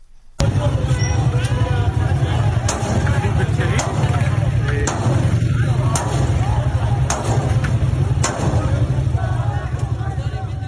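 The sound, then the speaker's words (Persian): Several sharp gunshots from security forces firing at a street protest crack out at irregular intervals over a loud, continuous roar of crowd noise and shouting voices at an outdoor street gathering. “ویدیوهای منتشر شده از این اعتراض‌ها نشان می‌دهد ماموران امنیتی بارها اقدام به تیراندازی می‌کنند.”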